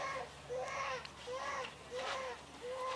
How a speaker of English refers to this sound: and listen to my child crying.